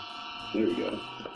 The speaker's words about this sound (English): The game just pretty much freezes on a creepy-ass picture. Yeah. But listen to the Game Boy sound. Creepy.